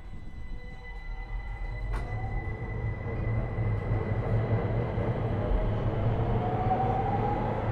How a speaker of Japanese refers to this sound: 毎度ご乗車ありがとうございます。この電車は京阪京浜線方面浜大津駅です。